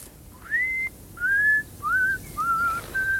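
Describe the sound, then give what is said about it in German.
A man whistles a short, wandering tune to himself while walking back and forth in a garden, five clear rising and sliding notes in a relaxed rhythm, heard alone at moderate volume. “ging da unten im Garten hin und her und pfiff vor sich hin.”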